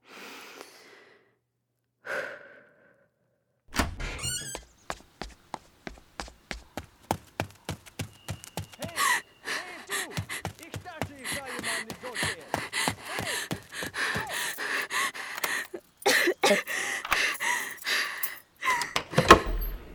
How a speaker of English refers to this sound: Okay, deep breath. Open the door, run down the steps, run home, unlock the door, get in, close the door, and lock it.